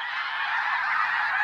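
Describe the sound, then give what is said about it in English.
A dense chorus of snow geese on green farmland honking continuously, many overlapping high, nasal calls blending into a loud, steady clamor with no pauses. “Snow geese.”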